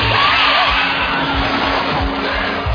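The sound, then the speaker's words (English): A dense, continuous chorus of harsh, high shrieking cries from shrieking eels, growing louder as they are about to feed, at steady, fairly loud volume, with low thumping pulses underneath, like a swarm of creatures screeching together. “They always grow louder when they're about to feed on human flesh.”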